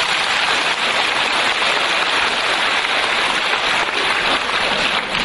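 A crowd applauds in a steady, dense wash of clapping that holds at an even loudness for about five seconds, with no voices over it.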